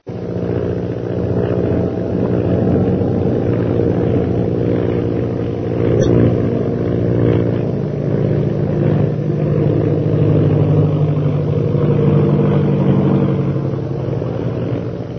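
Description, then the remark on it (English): Shanghai Lil's propeller plane's engine drones loudly and continuously as she stunts the plane to escape a pursuer, its pitch swelling slightly now and then, with no voices present. “Meanwhile, Shanghai Lil continues her attempt to escape her pursuer by stunting her plane.”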